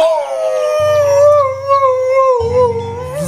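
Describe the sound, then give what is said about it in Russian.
A wolf whose tail has been shot off lets out one long, loud, mournful howl of pain that wavers and slowly falls in pitch, over a low rumbling pulse in the background. “Взвыл волк от боли и помчался без оглядки.”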